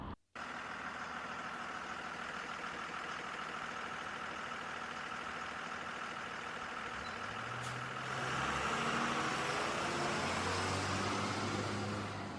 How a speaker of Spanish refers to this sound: Nos adentramos en la Supersur y en 10 minutos de viaje solamente nos encontramos con dos camiones en nuestro trayecto. Como vemos, bueno, pues es un paseo tranquilo, es bastante notable que no tenemos los tráficos que estaban previstos